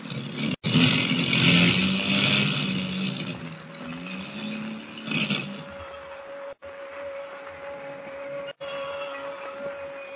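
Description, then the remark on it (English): A loud, rough engine drone with a steady hum running through it, cutting out abruptly three times as the airplane engines misfire and sputter during a storm and the plane drops lower, then catching again. No voices. “Motors are missing worse than ever. We're dropping lower.”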